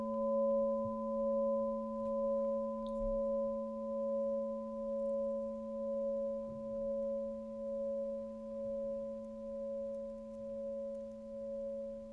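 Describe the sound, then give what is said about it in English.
A crystal singing bowl rings with a steady, pure sustained tone and soft overtones, its volume gently swelling and fading in slow waves throughout, with no voices. “We've had the presence of this beautiful crystal bowl with us, and now I invite you to begin to hum.”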